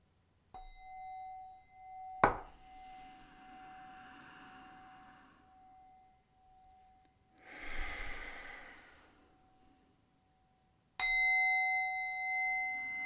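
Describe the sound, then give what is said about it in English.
A meditation bell is struck three times at the start of a meditation, the first two close together and the last after a long pause, each leaving a clear, sustained ringing tone, with soft breathing audible between strikes. “Okay, I'll start with the three strikes.”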